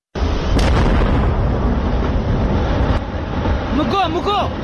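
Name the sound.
gunpowder blast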